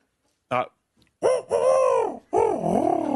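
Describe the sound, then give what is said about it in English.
A person imitates a female falcon's call with a short sharp yelp followed by two long, wavering, nasal screeches that rise and dip in pitch, loud and alone. “Female falcon.”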